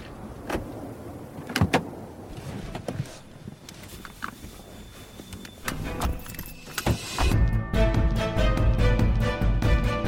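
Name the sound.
keys jangling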